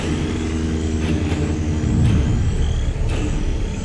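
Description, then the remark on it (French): Airplanes crossing the sky in the rainy season, searching for survivors of a plane that vanished from radar: a deep, steady rumble of engines drones on throughout, loud and unbroken, with a few brief hissy bursts rising above the low roar. “Derrière le concert des grenouilles, il lui semble entendre le grondement d'un moteur.”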